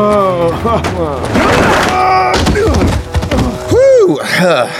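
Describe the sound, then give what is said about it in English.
A heavy wooden thunk as Jim slams Murtaugh's head down onto a table, spilling a bowl of stew, one sharp impact in the middle of loud, agitated voices. “He slammed Murtaugh's head down onto the table.”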